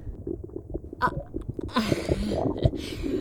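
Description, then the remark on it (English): A drawn-out burp with a low, gurgling rasp, rising from quieter throaty noises into a longer rumbling belch near the end. “I didn't even mean to burp that one out.”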